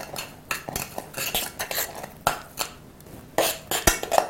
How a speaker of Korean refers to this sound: 자, 이제 다 익었으니까 불을 끄고 고춧가루 5큰술, 5큰술 넣으시고, 그 다음에 굵은 소금, 천일염이죠? 1큰술 넣으시고, 자, 잘 한번 섞어보세요.